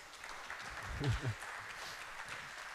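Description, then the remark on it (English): An audience claps steadily throughout, welcoming a presenter to the stage for a talk about edible fiber and noodles, a dense crackling patter of many hands at moderate volume, with a brief voice rising briefly over it near the middle. “Maybe we can encourage him to give him a big round of applause.”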